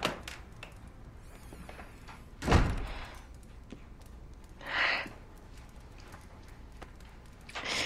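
A door is pushed shut with a single dull, low thud, and a couple of seconds later comes a softer, brighter rattle like the latch settling. Otherwise only a quiet hush, with no talking.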